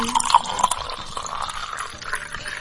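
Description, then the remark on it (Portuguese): Drinking water pours steadily into a glass, a continuous splashing trickle whose pitch rises slightly as it fills, lasting a few seconds with no voices. “Vamos tomar um gole de água.”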